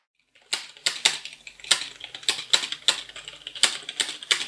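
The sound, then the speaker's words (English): Rapid, clattering keyboard typing with sharp, uneven bursts of keystrokes, fairly loud, with no voices present. “Caring not a jot for the intimidating clatter of his keyboard, I strode up to him and hovered at his side like a pesky gnat.”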